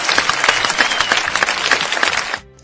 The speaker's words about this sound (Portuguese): Perfeito, palmas